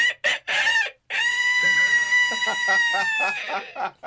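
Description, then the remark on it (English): A person imitates a rooster's crow for a song: a few short clucking bursts, then one long, sustained, wavering cock-a-doodle-doo call, loud. “And we heard a cockerel crow, you know, in the song.”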